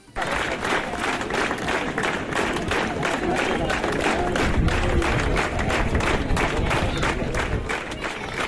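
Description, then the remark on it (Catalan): A large crowd of protesters demonstrating in the street in Formentera, with a loud, steady roar of voices and rhythmic clapping or chanting pulsing throughout. “Això és gent manifestant-se a Formentera, que costa sempre treure la gent a Formentera en els carrers.”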